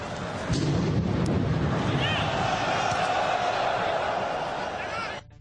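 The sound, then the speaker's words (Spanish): A dull boom from a bomb explosion beside a football stadium north of Paris rises out of the constant roar of the stadium crowd at a France–Germany friendly match. The crowd keeps cheering and chanting loudly for several seconds before cutting off. “Así sonaba la primera explosión junto al estadio.”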